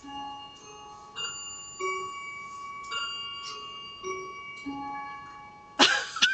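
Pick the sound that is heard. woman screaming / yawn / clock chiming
clock chiming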